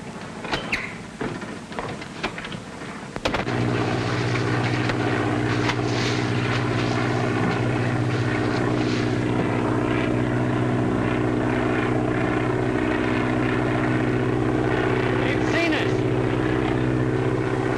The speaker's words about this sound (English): Is the plane coming? Sky Patrol? I don't think so. It ain't marked like one.